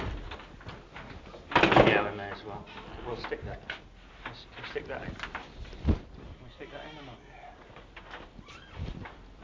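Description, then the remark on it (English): A heavy fire door bangs shut once with a loud thud, followed by faint clatter and indistinct voices murmuring in the background. “Fire door, is it?”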